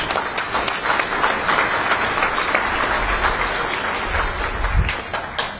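A crowd applauds steadily for several seconds, a dense wash of many hands clapping at once with no speech over it.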